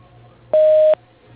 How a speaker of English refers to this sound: To leave a brief message, press 1 and we will return your call. After the tone, please leave your name, phone number, and a brief message, and your call will be returned as soon as possible.